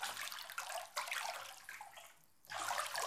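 Water splashes and sloshes in a tub as someone washes, a fairly steady wash of noise that briefly eases off before surging back. No voices are heard.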